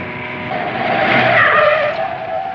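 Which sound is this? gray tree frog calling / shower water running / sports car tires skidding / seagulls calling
sports car tires skidding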